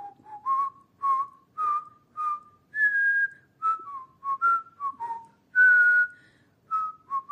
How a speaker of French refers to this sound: Je ne rencontre aucun humain, seulement quelques oiseaux. Mais je suis quasiment certaine que ces oiseaux sont en train de siffler des chansons françaises.